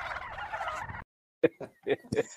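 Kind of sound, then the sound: bird, turkey gobbling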